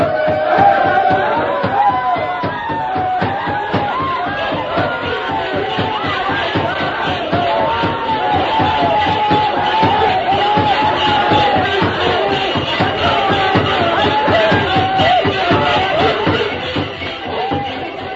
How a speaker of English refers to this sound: Tonto knew the plan of the savages. And while they danced and shouted, working themselves into a frenzy, he slipped away unnoticed and joined the masked man. Then, while the shouting and stamping was at its peak, a familiar cry rang out in the night.